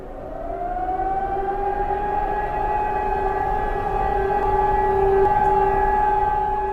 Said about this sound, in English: The sound of air raid sirens is a normal occurrence in Prague. They are heard all over the city on the first Wednesday of every month at noon when they're tested.